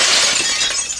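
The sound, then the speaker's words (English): A loud burst of shattering glass as a bird crashes through a crystal clear window, with bright tinkling fragments spilling for about a second. No voices. “That was the sound of another bird crashing through a crystal clear window.”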